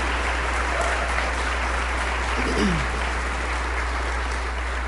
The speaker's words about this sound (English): So stand if you are over 21 years old and you went on this work project. You can do better. Louder. Give them a cheer.